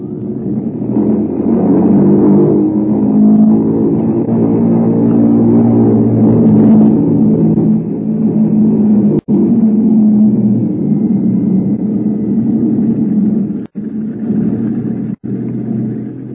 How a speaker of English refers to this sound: The mills of the gods began to grind, I would say, while we were completing our engine run up at the head of the runway.